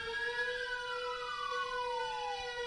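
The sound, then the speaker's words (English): A wailing alarm siren sounds steadily, its tones gliding slowly downward in pitch while a second harmonic tone holds beneath, loud and continuous with no talking. “The fucking alarm.”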